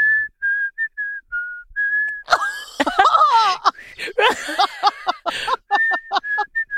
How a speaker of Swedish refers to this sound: Och vet du när jag vojade, vet du vad jag gjorde? Jag visslade såhär.